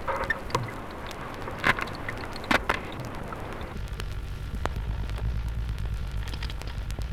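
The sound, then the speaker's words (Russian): Underwater crunching and drumming from a stingray in an aquarium: scattered sharp crackles and clicks over a low murmur, then a steady low drumming rumble that fills the second half, moderately loud. “Морской кот хрустит и бубнит.”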